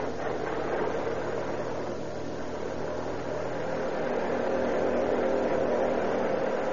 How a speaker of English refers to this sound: On a pitch black lane along the main road from San Jose to Oakland is a parked police car. It's wiped out. Quietly, the two occupants watch the infrequent cars that pass the spot. Here comes a car. Turn over your motor.